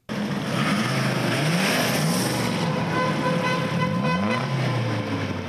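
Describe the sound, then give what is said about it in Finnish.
A car revs hard through a loud, tuned exhaust, engine pitch rising and falling in repeated surges, sustained with a rough, throaty roar. “Äänekkääksi tuunattu pakoputki lisää ajonautentoa.”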